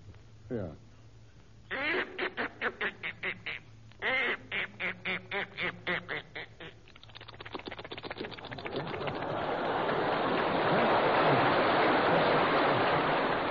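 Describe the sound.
A voice imitates a duck, with rapid bursts of nasal quacks, then builds into a loud, steady rushing hiss that mimics the bird splashing into water.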